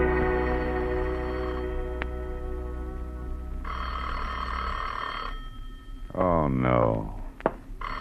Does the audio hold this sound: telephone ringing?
yes